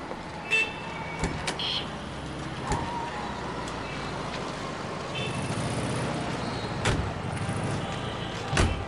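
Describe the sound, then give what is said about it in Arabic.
A steady low rumble of a car moving, broken by a few sharp knocks and clunks like a car door being handled and shut, with no talking. “تفضل، باب السيارة مفتوح.”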